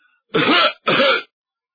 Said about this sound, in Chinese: 就听院里头有脚步的声音，人没露面，先咳嗽两声。